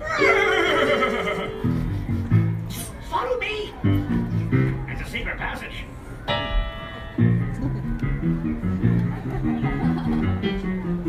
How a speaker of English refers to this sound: Suddenly, out of nowhere came a brand new character nobody had ever seen. Well, I've seen him. That's Maximus, the horse of the royal guard. And he's after me!